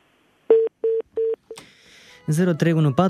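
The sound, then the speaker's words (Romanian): Four short, evenly spaced touch-tone beeps as a phone number is keyed in for a listener's call to a live radio programme, followed by a burst of line hiss and then a voice talking over a phone line. “Haideți, până ce numărul de telefon va fi format încă o dată”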